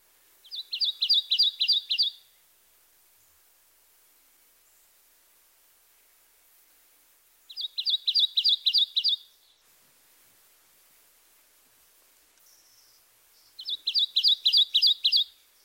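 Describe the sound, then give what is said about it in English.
A Kentucky warbler sings its two-noted song: three clear bursts of rapid, repeated two-note chirree phrases, each lasting about two seconds with long pauses between, bright against quiet background hiss. “Our third two-noted vocalization is the song of the Kentucky warbler. Listen to his repetitious chirree, chirree, chirree, chirree.”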